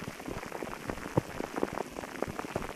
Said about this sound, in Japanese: 雨の音も安らぐし、雨の匂いもなんだか心地いいですよね。